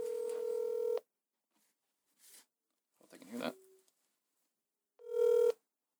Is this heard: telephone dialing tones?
yes